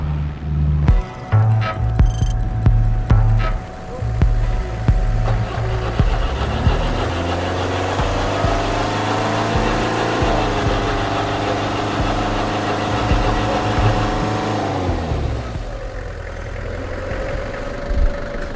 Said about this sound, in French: Bah là j'essaie de démarrer mon camion parce que j'ai pas vidangé le réservoir et je fais moitié huile, moitié gazole ou rouge. Et parce que c'est vieux moteur, du coup ça marche à l'huile.